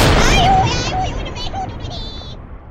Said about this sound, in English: However, in lieu of giving up me Farkle, I'm gonna shoot myself out of this big humongous cannon.